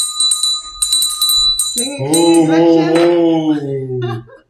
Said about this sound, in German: Klingel, klingel, Glöckchen.